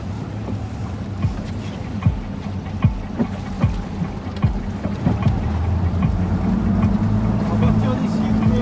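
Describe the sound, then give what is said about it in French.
A motorboat engine drones steadily as the boat leaves the port, its low rumble building and shifting pitch toward the end, with knocks and thumps scattered across the first half and wind buffeting the microphone. “Alors, faudra juste bien rester assis, s'il vous plaît, le temps que je sorte du port.”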